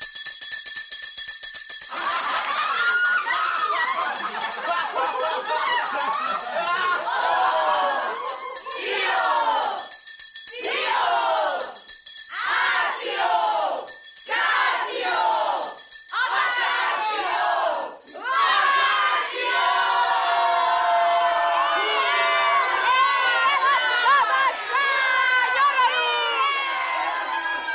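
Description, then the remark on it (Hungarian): A steady electric bell rings while a crowd of schoolchildren erupts into loud shouting and yelling in surging bursts, building into a continuous, shrill, chaotic hubbub once the ringing stops. “Tehát fillér tanár úr az utolsó percig magyarázott, és amikor a csengetés felhangzott, nagy ricsaj tört ki.”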